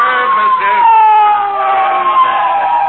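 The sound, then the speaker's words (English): A police motorcycle siren wails loudly, one sustained tone slowly sliding lower in pitch as it nears and winds down while the rider parks the motorcycle right in front of the listeners. “He's parking his motorcycle right in front of us.”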